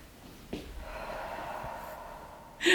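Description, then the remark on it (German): A long, deep breath drawn in and pushed out, a steady airy rush, followed by a sharper burst of breath at the end, with no talking. “Tief ein- und ausatmen.”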